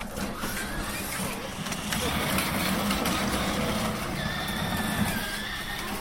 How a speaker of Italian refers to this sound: Lei ha un certo piacere per il rumore della sua macchina anche.